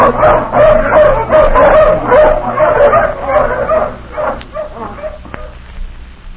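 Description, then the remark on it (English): A pack of hounds, just let off the leash, barks and yips excitedly in a rapid, overlapping chorus, loud at first, then thinning into scattered yelps and a few sharp cries as the dogs move off. “All right, let the hounds off the leash.”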